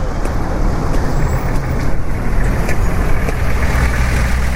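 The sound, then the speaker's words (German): A car of the city authorities, from the electricity works, turns up near a crossroads: its engine rumbles steadily, a low, continuous drone with some road noise over it, and nobody speaking. “Ein Auto der Stadtbehörden taucht auf.”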